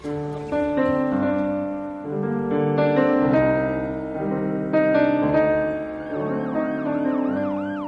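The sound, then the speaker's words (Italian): Loud emergency vehicle sirens blare steadily, overlapping two-tone notes stepping between pitches, joined near the end by a rising and falling wail. No one speaks. “Il suono delle sirene. Forse un'ambulanza, forse i pompieri, forse brividi lungo la schiena.”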